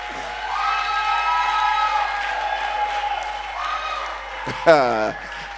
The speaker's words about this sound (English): Okay, can you clap and shout?